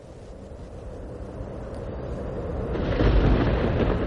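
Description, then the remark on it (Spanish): A deep, continuous thunderstorm rumble opening the second album of a folk metal band from Almendralejo, with a noisy, roaring texture, growing steadily louder and swelling to a heavier roll near the end. No voices. “Y ahora os presentamos con este sonido de tormenta, con el que se arranca el segundo trabajo de una banda de Almendralejo”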